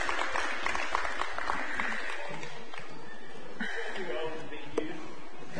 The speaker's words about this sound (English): Yes, youth and kids, you are dismissed. Big round of applause. Y'all clap for the kids.